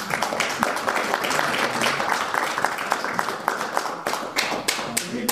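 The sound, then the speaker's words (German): An audience claps steadily for several seconds for a Christmas tree campaign that has reached 12,900 euros, a dense patter of many hands with sharper individual claps standing out, at a fairly even loudness with no talk over it. “Kann man ruhig mal klatschen.”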